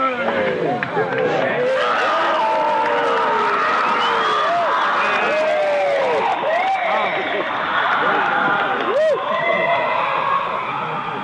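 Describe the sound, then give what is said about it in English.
A loud, dense crowd of screams piped in as a ritual fire is lit: continuous shrieks, with many rising and falling high-pitched cries layered over a steady roar of voices and cheering, sustained for the whole stretch. “But what's fun that they do, because they want the ritual to seem like they're burning a baby, is that they pipe in screams when they light the fire.”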